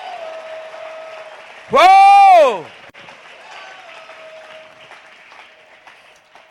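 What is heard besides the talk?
audience shouting and clapping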